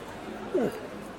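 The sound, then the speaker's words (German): A small dog gives a single short, high-pitched bark, a quick yip lasting a fraction of a second over a steady low background murmur. “Ist auch ein Hundi.”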